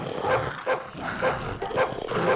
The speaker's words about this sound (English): Oh, my God. It's so loud. Jesus. Look how many dogs she gave us.